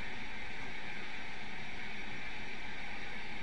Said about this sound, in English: It's just noise in the room. You still hear me? Yes. Yes, the heat.